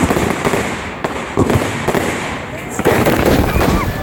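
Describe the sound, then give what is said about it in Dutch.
Fireworks crackle and pop in a rapid string of sharp, loud bursts at the closing fireworks show of a tattoo in Rotterdam, where a firework tipped over and a rocket went off into the audience, over a steady background of crowd noise and indistinct voices. “Tijdens een vuurwerkshow in Rotterdam is gisteravond een van de pijlen afgegaan in het publiek.”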